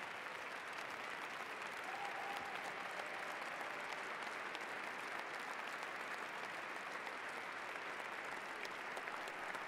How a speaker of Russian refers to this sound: Уже бурные аплодисменты.